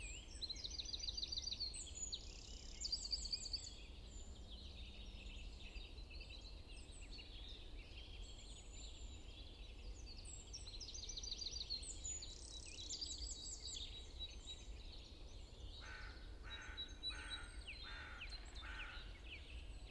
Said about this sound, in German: Vogelstimme, hell und rein, könnt ein Lied nicht schöner sein.